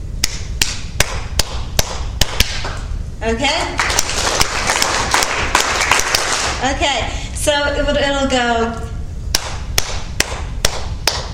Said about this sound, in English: And clap. We're going to clap this beat.